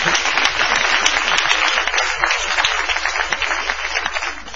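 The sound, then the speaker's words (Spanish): A crowd at the Paseo de la Plaza applauds Gillespie, a dense crackle of many hands clapping at an even loudness for several seconds with no voices over it. “Y aplaudamos a Gillespie.”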